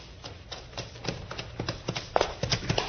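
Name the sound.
horse hooves trotting away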